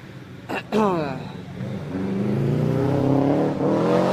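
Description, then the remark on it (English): A race car's engine drones, its pitch climbing after a brief gear change, then holding a steady, loud hum as it rolls slowly past. “so it shouldn't be long before the next car comes. And I can hear one. Here he comes. Oh, he's going really slow.”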